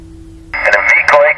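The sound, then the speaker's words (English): A low steady hum, then a burst of narrow, tinny radio transmission cuts in, carrying a garbled voice through noisy static at moderate loudness. “I read you not too loud and a little bit noisy, but it's readable.”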